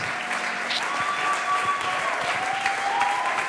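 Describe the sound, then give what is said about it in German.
Sustained applause from an audience, a dense wash of clapping at steady volume throughout, with a few faint tonal whistles or feedback lines gliding above it and no talking. The audience stands and applauds a woman as she comes onto the stage. “Lass uns mal aufstehen und ihr einen fetten Applaus geben, während sie auf die Bühne kommt.”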